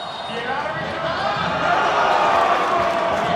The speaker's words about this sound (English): was in the crowd this week as Brazil defeated Mexico